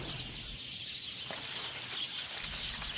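A flock of sparrows chirps in a dense, continuous chatter, the overlapping calls blending into a steady high-pitched wash, as a recorder is switched on to record them. No one speaks.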